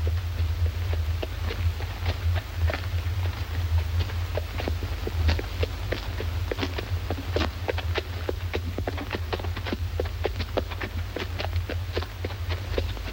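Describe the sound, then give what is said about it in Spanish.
Steady, evenly paced footsteps of an unarmed man walking along a deserted street in the morning tap on a hard surface for several seconds, clear, over a constant low rumble in the background with no voices. “Jesse camina desarmado hacia él.”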